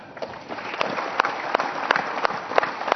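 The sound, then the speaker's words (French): An audience at a ceremony honouring victims of terrorism gives a minute of applause in support of their families, steadily, a dense wash of many hands clapping with sharper individual claps popping out irregularly, fairly loud and sustained throughout, with no voices rising above it. “Je voudrais vous demander une minute d'applaudissement en guise de soutien à leurs familles et d'encouragement par leur combat.”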